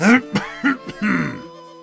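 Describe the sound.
A man clears his throat several times in quick succession before starting to speak, with short raspy voiced bursts and a longer rumbling final clear that trails off.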